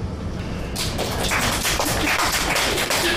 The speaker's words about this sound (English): Hey. The robin gets a clap.